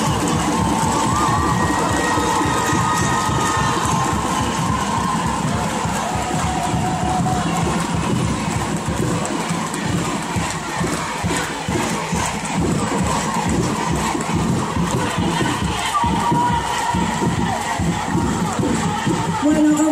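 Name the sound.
audience applauding and cheering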